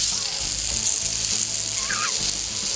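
Corned beef hash sizzles steadily in a hot pan, a continuous crackling hiss with a low background rumble and a brief squeak of utensil near the end; no one speaks.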